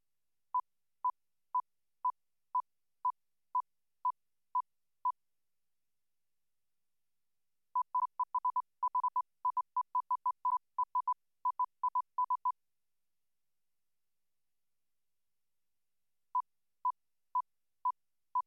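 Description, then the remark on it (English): A steady series of short, identical pure beeps at one pitch, then the same beeps buried among extra irregularly timed beeps of that pitch, and finally the regular beeps alone again. No voices. “We present a target sequence of evenly spaced pure tones, then we camouflage their regular rhythm by interleaving them with irregularly spaced masker tones of the same frequency.”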